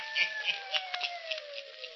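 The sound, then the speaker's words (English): The Hermit's hounds, on the radio show The Hermit's Cave, howl in a long, drawn-out wail that slowly slides downward in pitch, steady and moderately loud against a hissing background, with no one speaking. “Listen in again next week for my hounds howling.”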